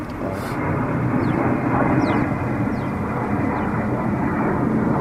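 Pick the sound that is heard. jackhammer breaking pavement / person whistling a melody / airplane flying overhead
airplane flying overhead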